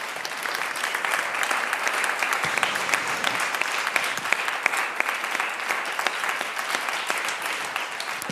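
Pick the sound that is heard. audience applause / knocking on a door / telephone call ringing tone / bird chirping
audience applause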